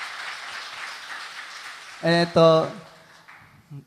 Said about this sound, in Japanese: この場所に主の臨在が満ちあるということを主に感謝して、もう一回主に拍手を捧げましょうか。アメン。